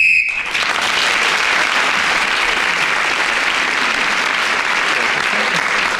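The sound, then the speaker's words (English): A single short, shrill whistle blast sounds at the start, marking that 60 seconds are up in a panel game round, then an audience breaks into loud, steady applause that continues for several seconds. “Those of you who may not know, the whistle tells us that 60 seconds is up, and whoever is speaking when the whistle is blown gains the extra point.”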